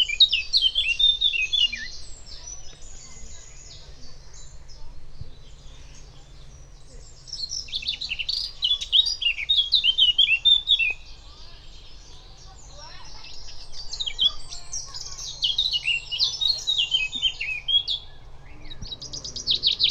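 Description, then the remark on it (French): Birds chirp and sing in repeated bursts of high, rapid tweets, fairly clear, with short quieter gaps between phrases over a faint low background rumble. “On entend des oiseaux.”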